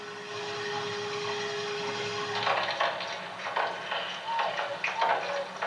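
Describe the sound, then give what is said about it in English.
The hull of the submarine Stingray straining under water pressure as it descends through an underwater tunnel: a low steady hum with a faint tone gives way to irregular creaks, rustling groans and short squealing metallic chirps. No voices. “That's the hull, and it doesn't sound very reassuring.”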